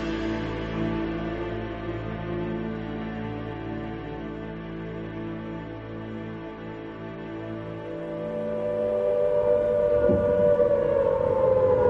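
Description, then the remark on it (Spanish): Air raid sirens in London, moments before war is announced, wail steadily and loudly for the whole stretch, a sustained droning howl that rises in pitch near the end, with no voices over it. “Momentos antes de anunciarse la guerra, las sirenas empezaron a sonar en Londres.”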